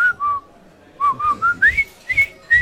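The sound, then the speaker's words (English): Someone whistles the Colonel Bogey march, a short, bouncy tune of clear notes in a steady rhythm with brief gaps between phrases and faint breathy thumps underneath. “Whistle Colonel Bogey to yourself.”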